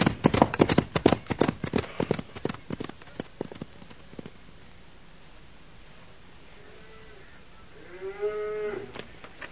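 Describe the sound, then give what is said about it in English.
A rapid clatter of hooves fades, then thirsty cattle moo, a short low call followed by a louder, drawn-out moo with a rising, strained tone. “Yeah, these cows look mighty thirsty, Bull.”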